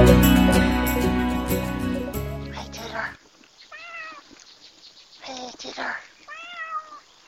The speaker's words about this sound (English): Hey, Tigger. Yeah, she's a good kitty. I'm out walking Odie again, and the neighborhood cat Tigger is about.